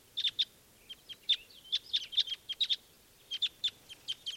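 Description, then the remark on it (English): A bright red male bird in a flock sings a lively series of sharp, high-pitched chirps in quick uneven bursts, some notes paired, with a brief pause before the phrase resumes. No voices are heard. “One really bright red male there is singing, and that's him giving the flock.”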